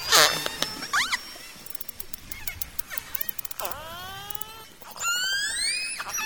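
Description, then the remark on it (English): Underwater recording of about 12 to 18 killer whales herding herring in the Vestfjord, with no boats around: rising and falling whistles and pulsed squeals overlapping, with sharp clicks scattered throughout, clear against a quiet background with no engine noise. “There's no boat engine rumbling to interfere. The orcas speak for themselves.”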